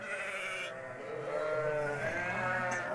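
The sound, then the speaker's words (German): Several sheep bleat over one another in a continuous, wavering, loud chorus, with no pauses across the whole stretch. “Die Schäferei hat eine jahrtausendealte Tradition, denn Schafe sind wunderbare Nutztiere, die Wolle, Fleisch und Milch liefern und Grünflächen abweiden.”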